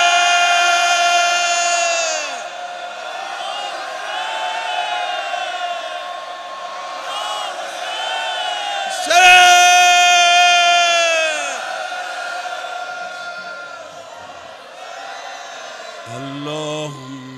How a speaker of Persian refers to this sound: من میخوام ازت یه خواهشی کنم، همه و همه انتظاماتی ها خادمای حرم که این همه زحمت میکشند، جمعیت زن و مرد، بچه ها، همه یک صدا فریاد بزنن یا حسین.